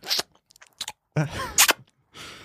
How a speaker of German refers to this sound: ich muss dir sagen, du musst dein Kaugummi mal ausspucken, bevor wir jetzt hier aufnehmen. Am Rumschmatzern.